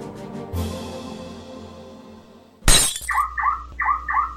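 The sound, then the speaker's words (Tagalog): During a break-in to rob a car, a dull impact rings out, then a sharp crash of the car's window glass shattering, followed by a repeating electronic alarm that warbles in quick pairs of rising tones. No one speaks. “Uy, honey, nanakawan yung kotse ng brad mo, oh.”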